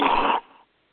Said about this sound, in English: Someone needs to mute their mic. They're coughing.